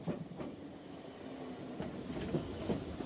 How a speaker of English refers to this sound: At the station, the train screeches to a halt.